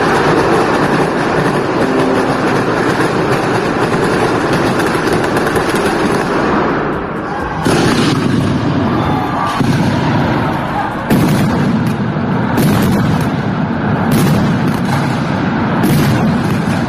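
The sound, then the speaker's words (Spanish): A long traca string of firecrackers goes off in a loud, continuous rattle of rapid bangs, broken by several sharper, louder blasts toward the end, with no talking, closing the final parade of the 2022 Magdalena festivities in Castellón. “El desfile final de fiestas daba paso a la traca para cerrar la edición de 2022.”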